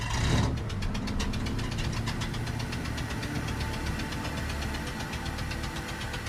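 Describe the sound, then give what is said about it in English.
A man in the driver's seat shifts gears and turns on the ignition. The car engine catches with a brief burst of cranking, then settles into a steady, loud idle as he lightly presses the gas pedal, its low rumble pulsing in an even, rapid rhythm with no voices. “The dad sits in the driver's seat and shifts gears, then turns on the ignition.”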